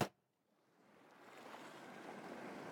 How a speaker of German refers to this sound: Also bis gleich, lass dich hineinfallen, lass dich führen und verführen von dem Meeresrauschen im Hintergrund.